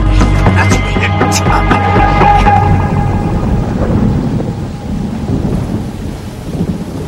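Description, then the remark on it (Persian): Loud, deep thunder rumbles and rolls steadily, filling the low end, with a brief tonal ring early on before the rumble fades into a softer, rain-like hiss. “الانه که بارون بگیره، باید بریم مرکز خرید یا یه فیلمی چیزی ببینیم.”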